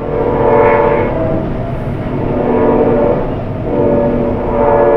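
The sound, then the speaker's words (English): A train horn sounds in long, sustained blasts over the steady rumble of a passing train at 3:45 a.m., heard at a home near the train line in the middle of the night, loud, swelling and easing in waves with no voices. “I asked because I live near the same train line, about 30 miles north, and here's what it sounds like at my place in the middle of the night.”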